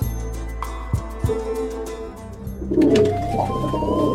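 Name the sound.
homing pigeons cooing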